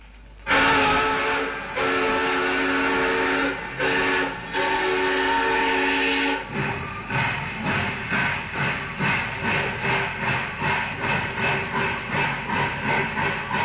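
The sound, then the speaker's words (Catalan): A steam locomotive being started sounds a long, loud whistle with a couple of brief breaks, then begins chugging in a steady, quickening rhythm of puffs as it pulls away. Nobody speaks. “Posem la marxa a la màquina de vapor.”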